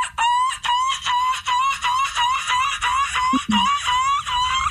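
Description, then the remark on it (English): A person does a screaming seagull impression to be judged, a rapid string of shrill, strained, harmonic squawks, each breaking off in quick succession for several seconds, loud and continuous. “And then we ended up doing our own seagull screaming impressions for them to judge.”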